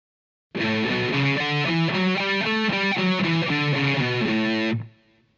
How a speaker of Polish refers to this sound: Skala miksolidyjska septymowa grana jest z akordem tonicznym A7.